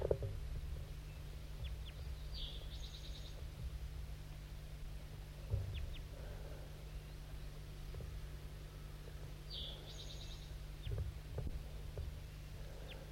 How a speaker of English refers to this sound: And as I was taking the bird out of the net, I thought I heard another crossbill perched in the tree above, looking down because I... Yeah, there is. I'm pointing to it right now. There's another crossbill here. I didn't even know it.